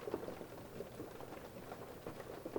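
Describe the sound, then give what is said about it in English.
Steady rain patters continuously, a dense even hiss of drops with no pauses, fairly soft and unbroken, with no voices over it. “Just that constant sound of the rain.”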